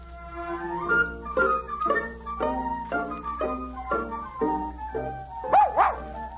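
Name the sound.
dog barking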